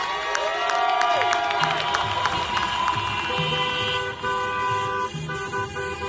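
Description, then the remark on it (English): Many car horns honk and toot over one another in a steady, overlapping din, with engine rumble and crowd noise and cheering underneath, from a procession of cars at a protest during COVID. “So instead of marching hand in hand, we join a procession of cars.”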